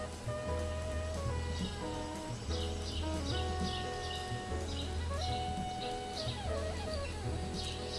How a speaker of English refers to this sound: Some small bird sings with full heart this welcome day.